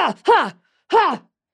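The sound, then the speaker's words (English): A man voices a series of effortful, grunting breaths, like someone straining in a fight: two or three short, loud, voiced bursts in quick succession, close up, with brief gaps between. “Here's fighting breathing.”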